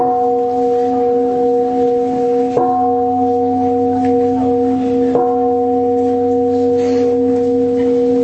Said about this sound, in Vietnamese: Cho ba tiếng chuông quỳ đi.